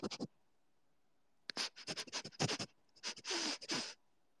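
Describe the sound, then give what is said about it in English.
A person sniffing in quick, breathy bursts: a short sniff, a pause, then rapid runs of hissy sniffs in an uneven rhythm, fairly loud, with nobody talking. “Can you guys hear the sniffing sound?”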